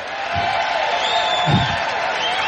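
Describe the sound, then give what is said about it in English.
A crowd of men cheers and whoops in a steady, loud roar lasting the whole stretch, with a couple of deeper bursts of voices rising out of the din. “All the men are cheering.”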